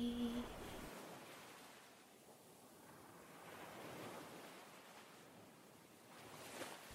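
Ocean waves wash onto the shore in slow, broad surges, a steady hiss of surf swelling and receding with no voices, moderately loud throughout.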